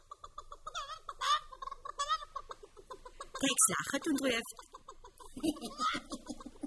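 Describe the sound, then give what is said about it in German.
A small, plump chicken clucks in frightened, agitated rapid bursts, with a short stretch of speech at the end and a louder squawk partway through. “Und im Sebenicken, wo vorher der Fuchs war, steht ein kleines, dickes Hühnchen und gackert verschrocken vor sich hin.”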